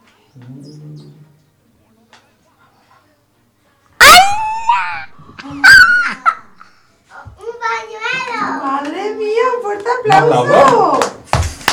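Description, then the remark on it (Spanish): Children clap together in a loose, uneven burst of applause, mixed with high-pitched excited shouts and squeals. The noise is loud and builds toward the end. “Más fuerte, chicos, un aplauso muy fuerte.”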